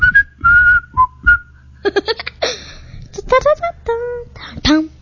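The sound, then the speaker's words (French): A short whistled radio station jingle: a few clear, bright notes in a quick melodic phrase, followed by livelier voiced bursts and chirpy tones, loud. “Radio Bonheur, la radio des siffleurs.”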